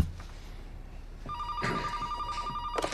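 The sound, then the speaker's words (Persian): A telephone starts ringing partway through with a steady, bright electronic tone, loud, while muffled movement and a brief voice-like burst sit underneath. “قرار بود تلفن نزنیم.”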